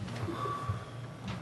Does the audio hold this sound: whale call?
no